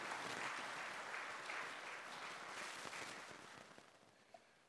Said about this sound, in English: Let's give that choir another hand clap. They did an excellent job.